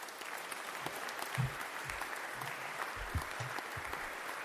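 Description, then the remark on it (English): A crowd applauds steadily for several seconds, a dense wash of many hands clapping at an even level, with a few heavier low thumps mixed in and no voices; applause added in post-production to welcome a guest onto a show. “should we have, put in applause, will you, in post.”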